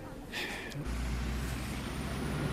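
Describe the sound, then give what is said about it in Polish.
Heavy road traffic passing day and night through Kargowa, Lubusz Voivodeship: a truck's air brakes give a short sharp hiss, then a deep, loud diesel rumble takes over and drones steadily, with a constant traffic wash underneath. “Dzień i noc samochody.”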